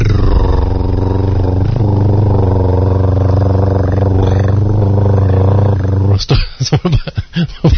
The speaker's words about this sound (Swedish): Det var bara ljud av en projektor här som stod och gick flera minuter.